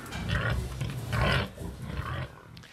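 pigs grunting

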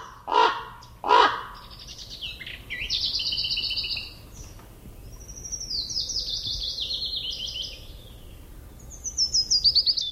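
raven croaking calls

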